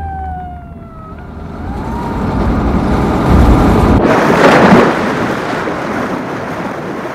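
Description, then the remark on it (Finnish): A stolen bus drives straight off a pier into the sea at the edge of Meritullintori square, a roaring, churning surge of noise swelling midway, after a brief wailing siren tone at the start. No one speaks. “Varastettu bussi ajaa suoraan laiturilta mereen Meritullintorin laidassa.”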